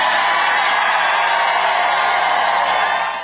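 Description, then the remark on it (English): A large crowd at a President Trump rally in Winston-Salem, North Carolina cheers loudly and continuously, a dense roar of voices and whoops for a few seconds before starting to fade at the end. “All right, that was President Trump last night in Winston-Salem, North Carolina, to a very enthusiastic crowd.”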